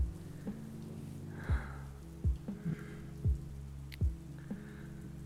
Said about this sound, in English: Just focus on my breath and my heartbeat. And just try to think away the rain and the thunder.